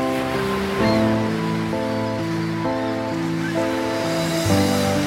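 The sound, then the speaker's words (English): A steady wash of ocean surf rolls beneath slow, sustained synth chords that shift every second or so, with the waves swelling gently rather than crashing. No one speaks. “Pretend to put a conch shell to your ear and listen to the sea.”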